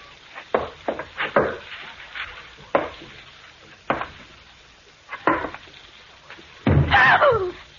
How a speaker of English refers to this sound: She fell down.